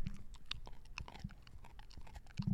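A small dog chews on a couch, with wet, crunchy mouth sounds and irregular bites and smacks continuing steadily for a few seconds, no voices.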